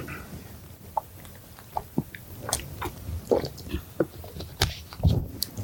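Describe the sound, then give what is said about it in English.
Quiet mouth sounds of someone sipping and swallowing water, with small wet clicks and gulps scattered irregularly over a few seconds and no talking. “got a sip of water here.”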